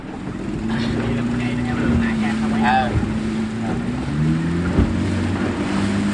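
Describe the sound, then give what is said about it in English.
A motorboat engine drones steadily as the boat travels the waterways of Cà Mau province in Vietnam's Mekong Delta at the start of the monsoon, its pitch wavering slightly, with wind and splashing noise mixed in and faint sounds above. “The preferred and fastest way to get from one place to another is by boat.”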